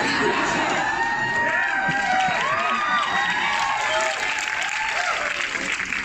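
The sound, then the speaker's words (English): Sustained audience applause with cheering and whoops for the cast of the film Barbie, a dense steady wash of clapping that stays loud throughout, with excited voices rising above it. “I mean, we can just let them use all the time with the applause if you want.”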